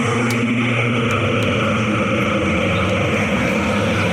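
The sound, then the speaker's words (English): A low, ominous droning hum from an ancient cursed amulet holds steady and loud for the whole stretch, a dense rumbling tone with faint ticking flecks above it and no voices. “Sometimes the cursed amulet drones like that when it's not pleased with me.”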